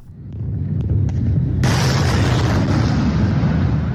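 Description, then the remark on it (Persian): A heavy, sustained rumble of strong explosions from a night missile attack around Damascus, Syria, with a few sharp cracks early on and then a dense, roaring wall of blasts that continues loudly to the end. “1 بار دیگر صدای انفجارهای قوی و حمله شبانه به اطراف دمشق و باز هم روایت‌های متفاوت درباره آن.”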